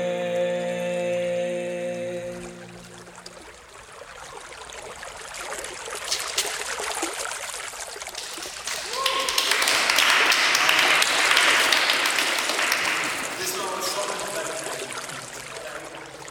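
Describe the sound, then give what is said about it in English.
Ocean waves wash over sand in a broad, hissing rush that swells to a loud surge midway and then recedes, following a brief steady tonal hum at the start. “I take imprints in the sand, environmental noises, sound from the waves, ever-growing current, erasing my trail.”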